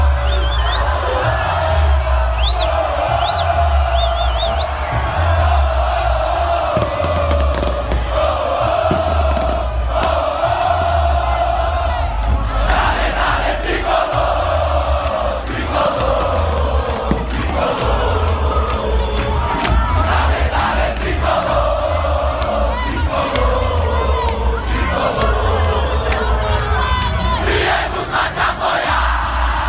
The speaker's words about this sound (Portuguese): Escuta só aí a torcida do Fortaleza, que festa bonita.